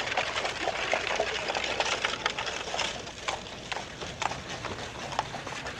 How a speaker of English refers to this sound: horse, apparently a stallion, followed by the official Happy Station carriage